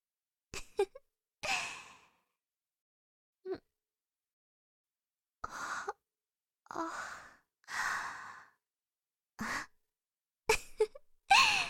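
human body sound, yawning

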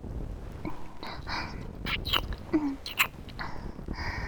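human body sound, kissing sounds

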